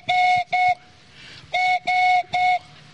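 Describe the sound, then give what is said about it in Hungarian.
A handmade whistle imitates a collared dove's cooing: two steady, hollow notes, a short pause, then three more of the same pitch, each held firmly and fairly loud with no talking. “Ezt pedig balkáni gerlének hívják, vagy vadgalamnak hétköznap.”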